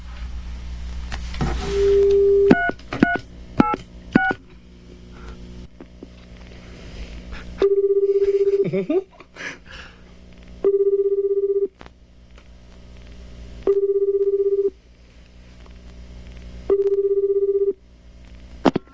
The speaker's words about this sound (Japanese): ではですね、ここら辺でちょっと電話をですね、一件かけてみたいと思います。誰が出てくるかはまあお楽しみというところですけど。じゃあちょっと。